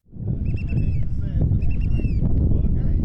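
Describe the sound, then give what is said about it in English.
Steady wind roars and whips around a boat lurching in the waves on choppy water in Lynn Canal, Alaska, a heavy, continuous rumble, with seabirds crying faintly above it. The boat is carrying volunteers to a rocky lighthouse island. “The wind is whipping, and the boat lurches in the waves.”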